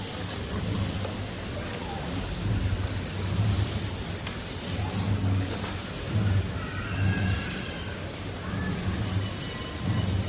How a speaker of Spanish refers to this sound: Tal vez hayas logrado adivinarlo, ayudado por ese sonido del tambor destemplado por esa campana. Es la cola arrastrándose del hábito de la cofradía del Santo Entierro. Está grabado en la noche del Sábado Santo